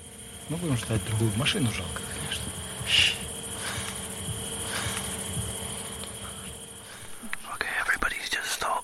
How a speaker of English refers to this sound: Staring silently at the sky because we can hear a drone above us. So that drone we heard has passed overhead, so we need to get out of here fast.